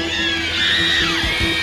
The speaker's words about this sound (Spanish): esos gritos, que se oigan esos gritos. Pocos gritos en castellano, esos gritos.